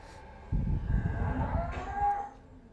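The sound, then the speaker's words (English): A dairy cow near a newborn bull calf gives a single long, low moo, rising into a strained, tonal bellow before fading, heard alone against quiet ambience. “Other cows always seem to show a strong interest in a new calf.”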